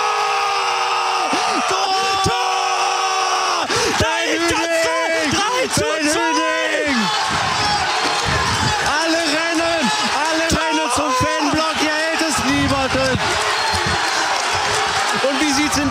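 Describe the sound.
A large stadium crowd of Essen football fans in Duisburg roars and cheers after a goal making it 1:1, with pyrotechnics in their block, many voices shouting and chanting together, loud and sustained for the whole stretch.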